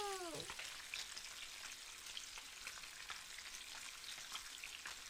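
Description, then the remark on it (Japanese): Coated chicken pieces for karaage deep-frying in oil at 170°C, added a little at a time: a steady crackling sizzle with dense bursts of popping throughout; a brief descending tonal squeak at the very start, then continuous frying with no talking. “なんで油で揚げる音ってこんなに気持ちいいんでしょうね。”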